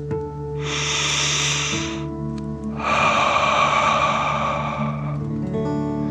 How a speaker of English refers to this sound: Breathe in through your nose, filling up your chest and belly, and then out through your mouth, pretending you are breathing fire. Ready? Okay. Deep breath in and out.